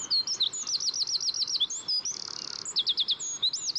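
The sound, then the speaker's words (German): A small songbird no bigger than a small child's hand and weighing about 10 grams belts out a loud, rapid trilling song, audible up to 500 metres away, with fast rippling phrases and a buzzy rattle strung together without pause, clear against a faint background. “Bis zu 500 Meter weit kann man seine schmetternden Trillermelodien hören.”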